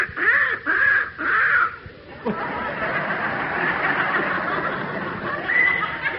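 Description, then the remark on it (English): A young crow with a hurt leg gives three harsh, nasal caws in quick succession, then a rough, raspy squawking continues with one more call near the end. “Hey, it's a young crow that Alfie spotted.”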